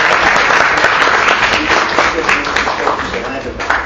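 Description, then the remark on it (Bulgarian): A large audience at a sports awards ceremony bursts into loud, dense applause for the ninth-place athlete, a state boxing champion from Haskovo boxing club on the women's national team, many hands clapping at once in a steady roar that eases only slightly toward the end. “Вашите аплодисменти за Гелушен.”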